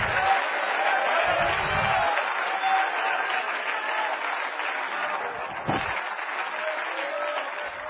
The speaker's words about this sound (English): Clap your hands to Jesus, please. Shout unto God.